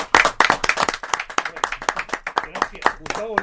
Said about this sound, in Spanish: Un aplauso.